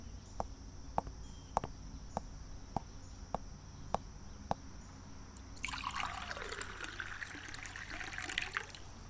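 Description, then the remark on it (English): A faint run of evenly spaced clicks, then water starts pouring into a glass, a bright trickling splash that rises in pitch as the glass fills, with no talking. “Just let me get a glass of water.”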